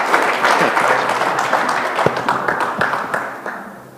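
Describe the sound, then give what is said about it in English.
A crowd claps steadily for a man on his birthday, a dense wash of many hands with a few sharper individual claps standing out, loud before gradually tapering off toward the end. “Let's give him one more clap offering.”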